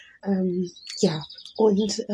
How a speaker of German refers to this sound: Ja, wie gesagt, ich sitze hier gerade auf dem Balkon, die Vögel zwitschern und ich habe mir gerade noch einen leckeren Kaffee gemacht.